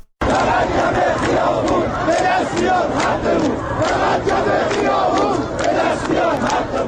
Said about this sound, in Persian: صدای اعتراض شماری از مردم شهر کرد. حقی که آنها میخوان یک کلمه است: آب.